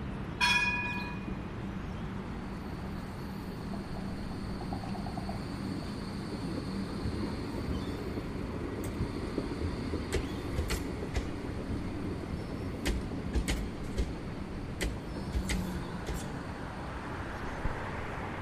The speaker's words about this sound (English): there's a city-bound tram just on the other side of us.